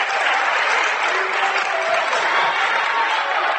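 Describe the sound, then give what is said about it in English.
A Mechanicsburg basketball crowd cheers and applauds loudly after a five-second-count turnover, with a dense, steady roar of clapping and voices that holds the whole time without a break. “Mechanicsburg crowd finally with something to cheer positively about.”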